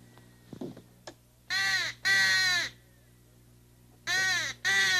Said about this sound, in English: It's usually a black bird or a... Crow? Crow, that's it. That's a crow's call.